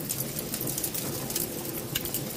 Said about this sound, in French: J'entends le pain qui crépite. On dirait presque le bruit du feu, mais non. C'est la croûte qui tergiverse.